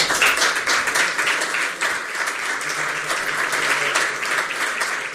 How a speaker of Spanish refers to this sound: Aplausos de todos los miembros de la Corporación. Después de que el alcalde le entregase a la princesa la medalla, la insignia y la vara de mando como alcaldesa honoraria de Oviedo.